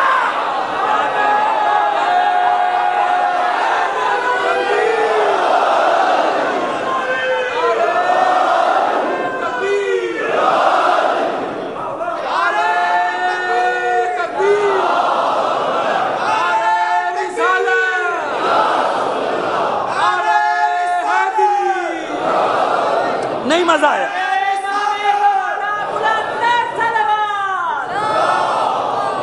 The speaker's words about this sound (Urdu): اب ایک آدمی نعرہ لگاؤ, تینوں نعرے لگاؤ تو پتہ چلے. یہ اچھی بات ہے نا. میں نے پہلے دن عرض کیا تھا نا کہ اس سے پتا چلتا ہے کہ نعرے پلانٹڈ نہیں ہیں, بلکہ جس کو جہاں جوش آ رہا ہے وہ نعرے لگا رہا ہے.